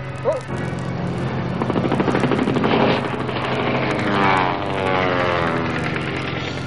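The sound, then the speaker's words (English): A loud, steady aircraft engine drone fills the scene while rapid machine-gun fire rattles in fast, continuous bursts as a plane strafes a helicopter from behind over the water. “Behind us! A plane! They're shooting at us!”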